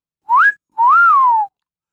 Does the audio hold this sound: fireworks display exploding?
no